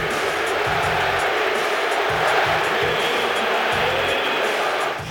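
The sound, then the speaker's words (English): Knicks fans cheer at a playoff game in Philadelphia's Wells Fargo Center, a dense, steady roar that holds loud for the whole stretch, with rhythmic low pulses beneath it like chanting or clapping in unison. “Knicks fans, they travel Kendrick Perkins, and they went to Philadelphia to cheer they on sure their Knicks.”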